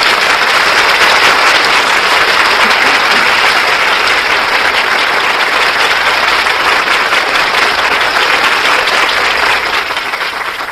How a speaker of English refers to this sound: I'm sure that applause told you how much our audience enjoyed your performance.